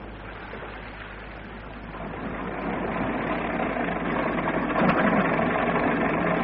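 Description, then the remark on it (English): A bus engine idles with a steady, rough mechanical rumble and a low droning hum, growing slightly louder over several seconds, as the bus fails to get going. No one speaks. “I don't know what's the matter with this wretched bus. Won't go anymore.”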